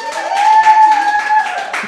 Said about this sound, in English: Give yourselves a round of applause just to show that we have a studio audience here today.